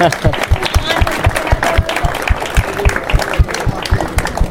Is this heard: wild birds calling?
no